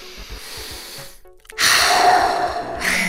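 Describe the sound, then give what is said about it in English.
A deliberate deep belly breath: a long airy inhale, a brief pause, then a louder, rushing exhale, with no talking. “Yeah, start by getting them to calm down and use the Swiss Army knife in the mental health toolbox. Deep belly breathing.”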